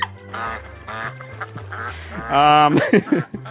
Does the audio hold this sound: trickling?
no